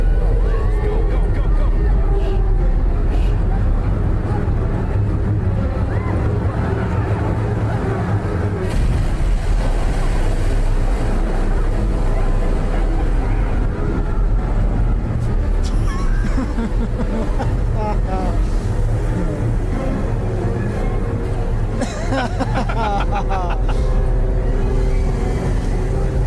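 boat engine running

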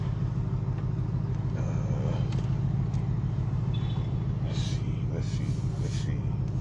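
truck engine

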